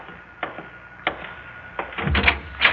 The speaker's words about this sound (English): Oh, I'll get the door. No, let me.